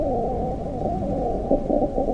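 The mating buzz of two fruit flies (Drosophila): a continuous, low, droning hum that wavers slightly, with a couple of faint whistly tones rising out of it late on. No voices.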